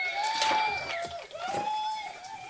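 An applause sound effect played from a small mixing board: a steady wash of crowd clapping and cheering, with shrill whistles rising and falling over the noise for a couple of seconds.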